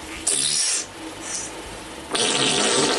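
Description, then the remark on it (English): Loud, raspy fart-like noises from a video being played come in two long sputtering bursts with a brief faint blip between them, with no talking. “On her back, she just farts and farts.”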